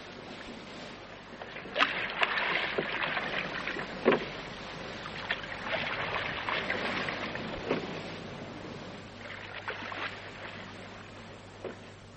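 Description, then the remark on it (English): Paddles dip and pull through water in an uneven rhythm, with splashy strokes and sloshing over a steady low hum; a few sharper splashes stand out, and no one speaks. “Let's move on till we get to drinkable water. Go on! Paddle!”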